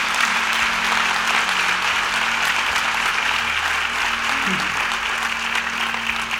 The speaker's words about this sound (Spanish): Bueno, un aplauso.